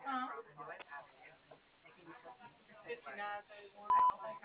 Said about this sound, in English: Please leave me a message after the beep.